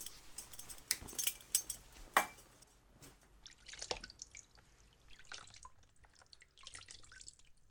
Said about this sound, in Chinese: 小贱狗，别乱动，本女王在用高压水流给你冲刷鸡巴呢。